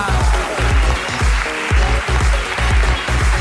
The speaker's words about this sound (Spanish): ¡Aplauso para ella!